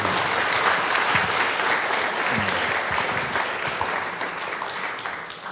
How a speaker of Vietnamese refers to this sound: Chúng ta dâng lên Chúa Mẹ một tràng pháo tay nữa.